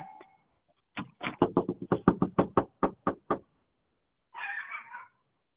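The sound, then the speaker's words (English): A rapid, even series of about ten sharp, loud knocks on a door, followed shortly after by a brief cat meow. “I got a knock on the door.”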